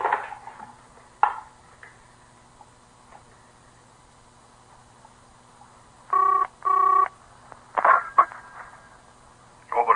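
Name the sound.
telephone being dialed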